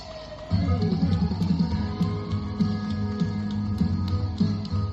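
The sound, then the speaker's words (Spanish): A fire truck siren wails with a slow rising pitch over a loud, steady low rumble with rhythmic thumps throughout, outside the Hospital Clínico in Málaga, Spain, at 8 in the evening, as the fire truck joins a city bus's celebration. “Bueno, una canción, hasta incluso un camión de bomberos, se quiso sumar a la fiesta.”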